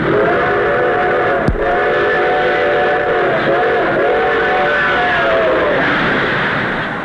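A train rumbles past a tourist cabin while its whistle blows in one long, loud, steady chord for several seconds, with a sharp click early on and the noise easing slightly at the end.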